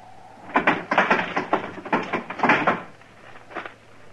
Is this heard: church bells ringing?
no